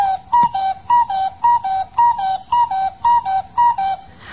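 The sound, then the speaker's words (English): A cuckoo clock, its hands just pushed around to 8 o'clock, calls out eight o'clock with about eight steady two-note cuckoos, each a higher whistled tone dropping to a lower one, repeating evenly and fairly loud, with no talking. “I'll be right with you as soon as I check this cuckoo.”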